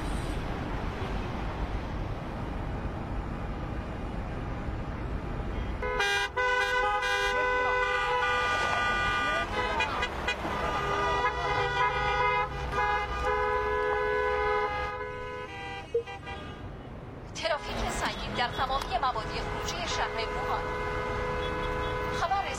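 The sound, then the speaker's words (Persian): Multiple car horns honk in long, overlapping blasts over a constant rumble of idling traffic in a highway traffic jam before sunrise, pause briefly, then start up again in a second burst of insistent honking. “گزارش شده که در بعضی از جاده ها صف ماشین ها بیش از 6 کیلومتر امتداد دارد و موجب انسداد مسیر شده است.”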